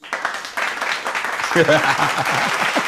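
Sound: applause sound effect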